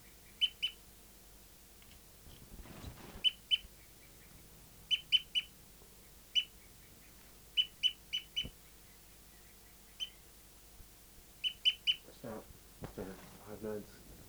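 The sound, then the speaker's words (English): A bird's tooping display call from bird 5-9, still tooping after 30 seconds: short, high-pitched toots in quick pairs and triplets, repeated in a steady rhythm with brief pauses between bursts, plus a couple of muffled rustling thumps. “Start recording bird 5-9 is still tooping after 30 seconds.”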